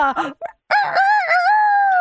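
A person imitates a rooster's crow as a clue in an animal-sound guessing game, starting with a short, choppy burst, pausing briefly, then sliding into a long, loud, drawn-out cock-a-doodle-doo call, clear.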